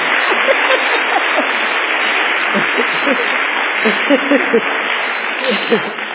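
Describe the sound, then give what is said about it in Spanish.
A church audience applauds steadily throughout, a dense, unbroken wash of clapping with scattered voices calling out and cheering underneath. “Aplaudan bien porque ustedes también vinieron para la iglesia más vencedores.”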